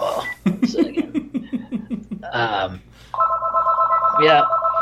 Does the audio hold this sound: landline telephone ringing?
yes